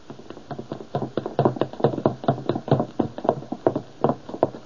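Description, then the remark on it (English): A man's rapid footsteps hurry down a wooden staircase, a quick, steady run of hollow thuds and taps at moderate loudness, with no voices. “I can hear him going downstairs.”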